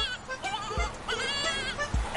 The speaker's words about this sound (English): Have you ever made this sound? We have the screaming goat button.